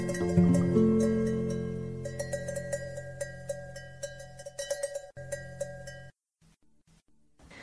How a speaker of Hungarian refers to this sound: Rezdül a tóvize, zöldül a domb, szól egy távoli birkakolomb.